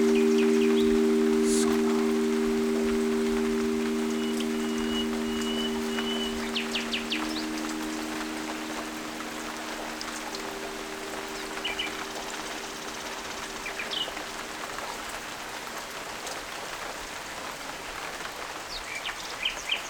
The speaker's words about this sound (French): C'est la nuit. Vous êtes dans la forêt, à l'abri dans une cabane où s'écoule la pluie et caché dans les feuillages.